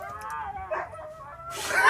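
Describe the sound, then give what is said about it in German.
Huskies belonging to nomads howl right behind a car in long, wavering drawn-out tones that overlap and bend in pitch, ending in a sudden burst of harsh, noisy yelping. “Die haben Huskies dabei und das hört sich ganz so an.”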